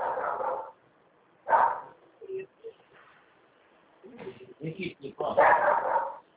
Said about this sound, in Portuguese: Passando gente na rua, o cachorro tá doidinho, né?